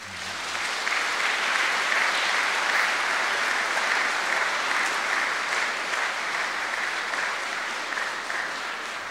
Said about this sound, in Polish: Ja myślę, że oklaski dla Ducha Świętego.